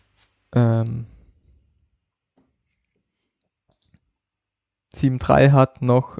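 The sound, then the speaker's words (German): A few faint, sparse computer mouse clicks, as a link is clicked again, sound in a quiet stretch between two bursts of a man talking, each click short and dry and spaced irregularly. “Jetzt habe ich weggeklickt natürlich. Lass mich nochmal auf den Link klicken.”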